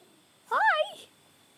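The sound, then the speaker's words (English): A single short cat meow, fairly loud, rising then falling in pitch over about half a second, with quiet background and no talking around it. “What you doing, kitty?”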